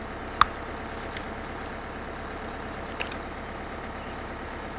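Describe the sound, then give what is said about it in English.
A school bus engine idles with a steady, low rumbling drone, fairly quiet, broken by a sharp click near the start and a softer knock later. “You understand this is the bus to the school now, don't you?”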